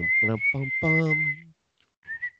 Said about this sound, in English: Don't make me laugh. I can't whistle when I laugh. It's physically impossible.